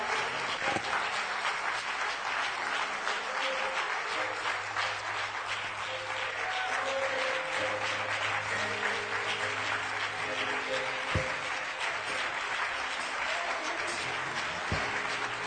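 A crowd applauds steadily to honor the founders of 44 years, a dense wash of many hands clapping at once that holds an even loudness throughout, with a faint low hum underneath and no voices standing out.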